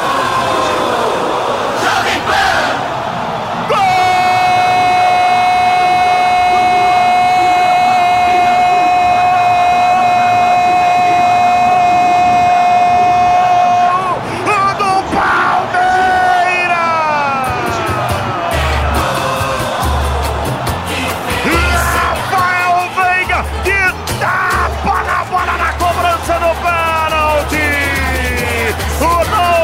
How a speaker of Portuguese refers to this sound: Alviverde, festa nessa torcida que canta e vibra. Palmeiras 2, Bahia 0.